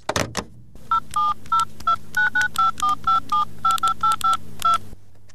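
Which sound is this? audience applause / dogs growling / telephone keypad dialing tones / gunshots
telephone keypad dialing tones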